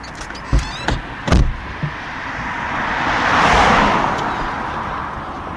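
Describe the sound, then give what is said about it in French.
A few sharp clunks and knocks, then a single car swells past and fades away, a steady whoosh of road noise in an otherwise quiet commercial zone. “Voilà, alors là, on est sur une zone commerciale où il n'y a pas beaucoup de vie, à part des voitures qui passent.”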